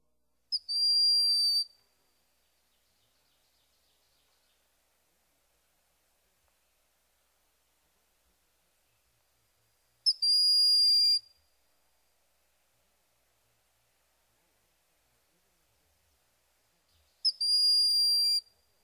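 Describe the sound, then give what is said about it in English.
A bird's shrill, drawn-out whistle sounds three times, each high thin note lasting about a second and separated by long silent gaps, clear. “His whistle sounds like a shrill, drawn-out bee.”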